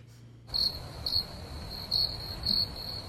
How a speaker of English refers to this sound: Play crickets, please.